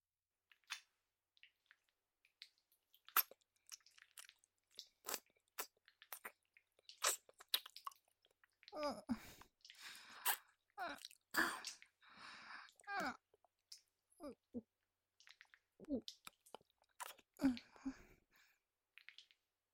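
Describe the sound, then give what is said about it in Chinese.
Wet licking and sucking mouth sounds, depicting licking and sucking a penis: sticky smacks and slurps in irregular bursts, sparse at first, then denser and louder in the middle, tapering off near the end. No talking. “我用舌头卷着你的肉棒顶端，不停的舔舐， 我会像这样把你的肉棒龟头整个吞咽进嘴里吮吸。”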